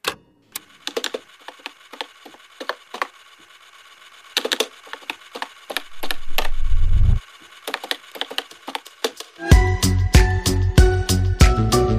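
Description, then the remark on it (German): A music beat built from sharp, woody clicking hits in an irregular pattern, then a rising low swoosh, before a fuller, steady groove with deep bass notes kicks in for the last few seconds. “So, den geilen Banger-Beat, den ihr jetzt gerade gehört habt, der stammt nicht von mir, sondern der stammt von meinem Co-Host, der mir gerade gegenüber sitzt.”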